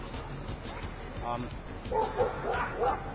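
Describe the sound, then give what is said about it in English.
Several dogs bark and yip in quick, overlapping bursts at the dog run in Tompkins Square Park, with muffled outdoor voices and general crowd noise running underneath. “And here we are at the Dog Run, Tompkins Square Park.”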